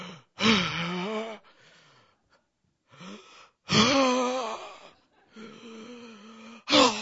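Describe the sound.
A voice imitates the heavy, labored breathing of a man in poor physical condition: loud, raspy gasping inhales alternating with softer wheezy exhales in a steady repeating rhythm, with no words spoken.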